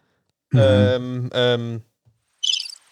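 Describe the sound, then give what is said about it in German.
Two long, low hooting tones sound, followed after a short pause by a quick flurry of high, twittering bird chirps, like birds outside. “Das Vögel vielleicht.”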